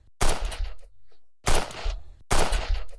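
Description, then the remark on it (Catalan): Three loud, sharp gunshots fired at an access door ring out about a second apart, each a harsh full-bodied crack that trails off in a brief rumbling decay. No voices are heard. “Dispareu a la porta d'accés!”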